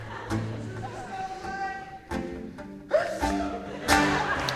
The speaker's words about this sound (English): I have to sneeze first.